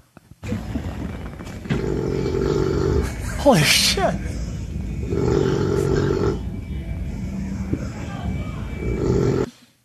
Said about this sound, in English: We have some audio of him snoring, perhaps. We'll play a little clip of that.